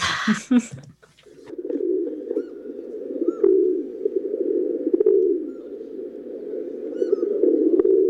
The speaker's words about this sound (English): The rock pigeon, the deep fake, the real bird, Columbia Livia, also called a rock dove or just a pigeon. The domestic pigeon is a descendant of this species, and pigeons were originally found in Europe, North Africa, and Western Asia.